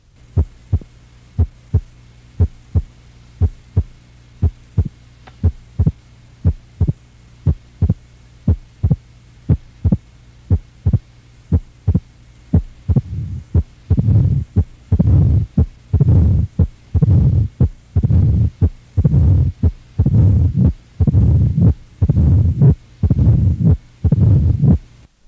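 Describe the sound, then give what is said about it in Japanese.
Steady heartbeat sounds repeat at an even rhythm, first as crisp normal heart sounds, then with a loud first sound and valve opening snap added, then a mid-diastolic murmur, and finally a pansystolic murmur, as loud rumbling and whooshing murmurs that fill much of each cycle; no one speaks. “それから拡張中期雑音を加え、最後はそれに全収縮期雑音を加えたものです。”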